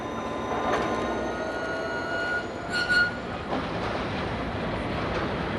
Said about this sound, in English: Before we can start our trip, the locomotive has to hook on to the rest of the cars.